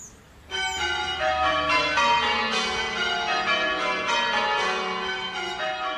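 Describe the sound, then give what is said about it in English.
Eight church bells ring in steady rounds, each bell striking in turn from highest to lowest in a continuous, evenly spaced descending sequence, loud and resonant with overlapping metallic hum and no voices. “What you do is you start with the bells in order from the highest to the lowest in what we call rounds, so 1, 2, 3, 4, 5, 6, 7, 8.”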